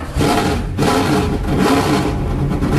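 A vintage race car engine revs loudly, a dense roaring drone that briefly eases off before surging again and holding steady. No one speaks.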